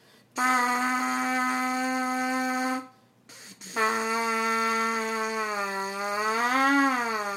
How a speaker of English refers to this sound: All I have to do, one of the few things I have to do to help with that is this buzz in the mouthpiece.